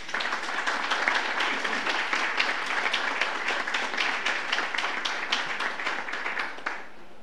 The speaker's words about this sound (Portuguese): Vamos aplaudi-la.